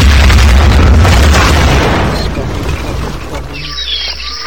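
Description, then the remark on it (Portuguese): A car explodes after a lighter ignites tree leaves thrown onto its seat: a loud explosion erupts with a deep boom and broad roar, then rumbles and fades over a few seconds into a quieter hiss with faint chirping tones at the end. “Então acendeu o isqueiro. Aí, gente, o carro só... vocês vão escutar aqui, o carro só fez isso.”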